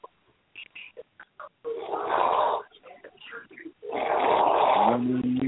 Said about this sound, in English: You're either Skype calling or snoring.